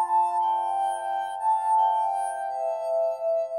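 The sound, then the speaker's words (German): A sustained singing tone from rubbed drinking glasses tuned with water, pure and ringing, held steadily for several seconds with gentle swells in loudness, like a wet rim being rubbed; no voices. “Zuerst nahm er Gläser und stimmte die Töne mit Wasser.”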